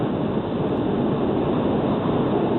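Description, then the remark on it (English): A steady, loud rushing roar of wind buffeting through an open car window, continuous and unchanging with a low rumbling undertone throughout. “Hey, hey, flying a jet? Yeah. It's got the window open.”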